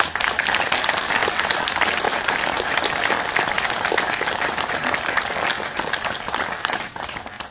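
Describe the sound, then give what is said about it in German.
Sustained audience applause for two people honoured for their commitment to their village: a dense steady wash of many hands clapping at full volume for several seconds before tapering off slightly at the end, with no voices. “Das, glaube ich, ist ein Applaus wert für die beiden.”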